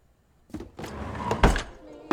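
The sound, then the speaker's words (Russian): A woman pushes shut a drawer of a kitchen sideboard by the wall: it slides with a scraping rumble that ends in a solid thunk, followed by a quick knock. Moderately loud, after a brief silence. “Она подходит и задвигает его.”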